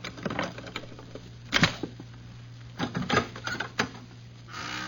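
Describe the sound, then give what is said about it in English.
A pass key scrapes and rattles in a hotel room door lock, giving a handful of sharp metallic clicks at uneven intervals over a steady low hum, with no one speaking. “I'm going to use the pass key.”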